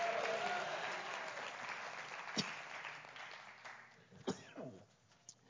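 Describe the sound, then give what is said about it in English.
A crowd claps steadily with scattered voices calling out, answering a call to clap and shout hallelujah; the dense applause gradually thins and fades over a few seconds until only a few isolated claps and sounds remain. “Would you clap your hands and shout hallelujah?”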